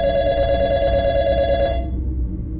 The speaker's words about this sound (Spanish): Cuando dieron las 3 de la mañana, el teléfono sonó.